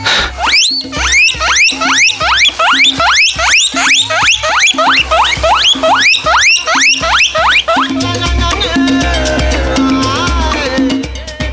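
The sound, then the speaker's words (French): A small pet rodent squeaks over and over, a quick steady series of high, rising wheeks, about a dozen in a row, then a busier run of shrill squealing toward the end. “Il va faire des petits cris qu'on appelle des couinements.”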